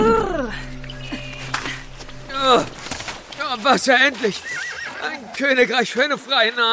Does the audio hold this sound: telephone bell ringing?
no